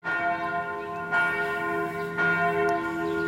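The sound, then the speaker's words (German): Large abbey basilica church bells ring at noon with rich, sustained overtones, new strikes landing about every second over a lingering hum. The pealing is loud and continuous, with no voices. “Die Glocken der Basilika läuten. 12 Uhr Mittag.”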